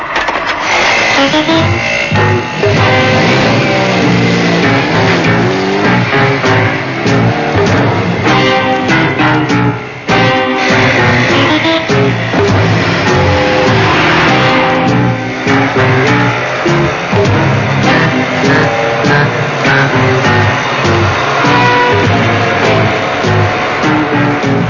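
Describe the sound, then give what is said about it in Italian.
Loud, continuous car engines roar and rev throughout as a car follows a man who went to a pharmacy, like vehicles racing in a chase, with a brief dip midway before the driving noise surges on. “È andato in farmacia e ora una macchina lo segue.”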